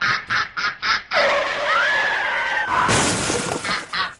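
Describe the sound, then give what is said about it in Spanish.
A loud, drawn-out car brake screech wails for over a second, then a crashing, shattering impact follows, preceded by a few quick rhythmic thumps. “El frenazo ese yo lo conozco. Ese frenazo se parece al carro.”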